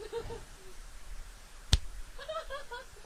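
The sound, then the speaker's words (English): A single sharp slap of a person's hand against their own face cracks out once in the middle, loud, over a quiet background with faint voices murmuring afterward. “You just slapped yourself in the face.”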